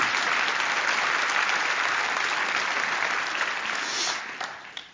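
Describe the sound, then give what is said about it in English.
An audience applauds steadily, a dense, sustained patter of many hands clapping that stays loud for about four seconds before tapering off, with no voices audible. “Yeah, Lord, I don't know what that applause is about.”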